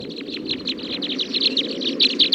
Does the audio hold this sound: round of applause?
no